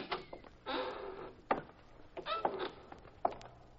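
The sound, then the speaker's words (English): The side door of a warehouse is pushed open with a rough scraping rattle, followed by a few sharp clunks and knocks as it swings, moderately loud. “The side door is open. Push it and go on in.”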